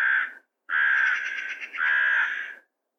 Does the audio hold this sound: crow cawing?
yes